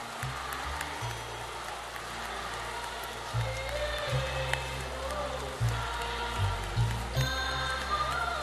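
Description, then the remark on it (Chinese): Sustained applause from a large crowd at a Lu Junhong world Buddhist friends meeting, given in thanks to Lu Junhong: a dense steady patter of clapping lasting throughout, with low background music or tones underneath and no clear speech. “我们再次用最热烈的掌声感恩大慈大悲的卢军宏台长。”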